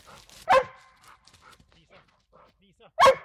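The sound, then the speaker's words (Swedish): A black-and-white springer spaniel police tracking dog from Luleå, Sweden, barks twice, loud, each bark a single sharp burst about two and a half seconds apart, with faint low rustling and murmuring in the quiet gap between. “En spårhund av rang med ett fenomenalt luktsinne.”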